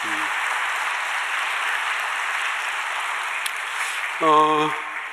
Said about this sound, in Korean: 지난 1년 동안 찬양대원들 너무 감사합니다. 작년에도 그랬지만 금년에도 정말 수고 많이 하셨고 감사합니다. 1년 동안 이 자리를 지키면서 하나님 앞에 찬양드렸던 우리 찬양대원들 박수 한번 해주시기 바랍니다.